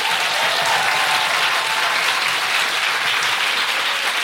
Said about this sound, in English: So before I do that, can I just have a big round of applause to everyone here at the Sam Wanamaker?